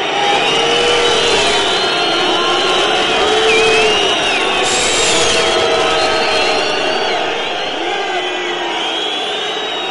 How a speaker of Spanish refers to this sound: Ahí están los abucheos del Foro Romano. Los circenses están bastante enfadados con estos dos gladiadores que acaban de salir a las Arenas de Sol.